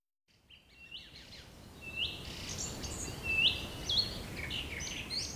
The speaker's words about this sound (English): Great to hear their song thrush. It's amazing how repetitive their song is. And they're often one of the first birds to sing in the morning. And as we can hear now, they're one of the last.